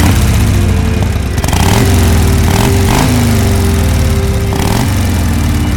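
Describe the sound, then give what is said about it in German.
A motorcycle engine is started on a circus stage and runs loudly, its steady rumble rising and falling with a few quick revs, with no voices present. “Beide setzten sich silberfarbene Helme auf und Leon ließ den Motor an.”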